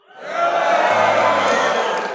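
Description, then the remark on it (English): A live show audience of Reason Weekend attendees in Pasadena cheers and whoops loudly in greeting, a dense wash of voices that swells up quickly and holds steady for a couple of seconds. “you may hear the clinking of glasses or the cheering or jeering of the crowd”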